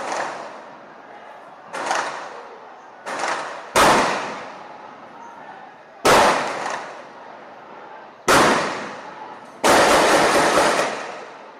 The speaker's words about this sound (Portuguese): Os caras estão metralhando no quartel.